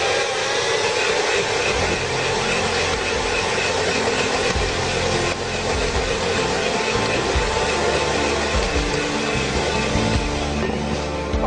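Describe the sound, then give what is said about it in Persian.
An electric hand mixer whirs steadily as it beats egg yolks for 2 to 3 minutes, a loud, continuous motorized buzz with a gritty rattle that holds an even pitch throughout, with no talking over it. “ببینید من همزن آوردم، معمولا با چنگال هم میزنم، ولی برای اینکه بوی زهم تخم مرغ از بین بره بهتره که با همزن 2 تا 3 دقیقه بزنید.”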